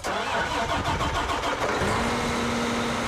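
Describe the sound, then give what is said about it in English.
A farm tractor attached to a 48-row planter, on a corn and soybean farm in central Illinois, cranks roughly for a couple of seconds, then catches and settles into a steady idle hum. No voices. “That tractor is attached to a planter that can seed 48 rows at a time.”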